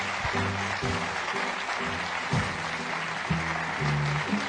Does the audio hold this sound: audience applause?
yes